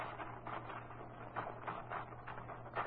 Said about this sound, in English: Oh, I get it. You want to use my typewriter. Sure, I'll put some paper in it for you.